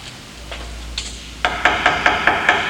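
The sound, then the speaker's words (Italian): Knocking on a door: two faint taps, then a quick, steady run of about six firm knocks, fairly loud, with no voices. “Chi è bussa?”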